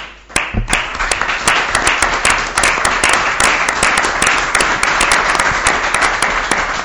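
A crowd bursts into sustained applause, many hands clapping densely and steadily at a loud, even level for several seconds, with no voices standing out above it.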